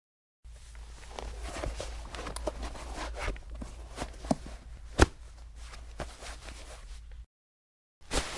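A man's footsteps walk across a floor toward the front door at a steady, unhurried pace, with a sharper knock partway through, over a low background hum. No one speaks.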